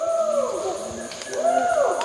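Chimpanzees calling from somewhere distant in the forest of Kibale National Park: two drawn-out, rising-and-falling hoots, one after another, over a steady background hiss of ambient noise.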